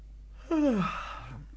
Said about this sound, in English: Give yourself a little wriggle and shake. And a yawn.